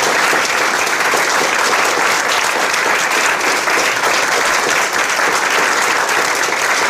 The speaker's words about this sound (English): OK, so please, I invite you to join me to give a big round of applause to our guests tonight.